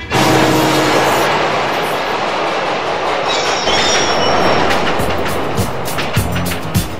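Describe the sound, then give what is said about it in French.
In the opening scene of a film set in New York, a loud subway train rumbles steadily through a busy city soundscape, with screeching wheels and metallic rattling over a dense background of car traffic noise; no one speaks. “Dans la scène d'ouverture du film, on nous présente tout d'abord le lieu de l'action, donc New York, avec les bruits de la ville, du métro et des voitures.”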